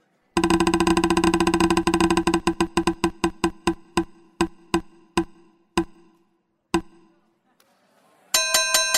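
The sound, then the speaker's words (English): A prize wheel of discussion topics clicks rapidly, its ticking slowing steadily until it stops on the Straight Pride Parade topic, followed by a bright, ringing chime that signals where it landed. “Let's spin the wheel.”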